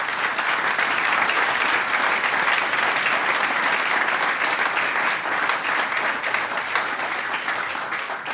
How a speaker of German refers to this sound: Danke, Applaus.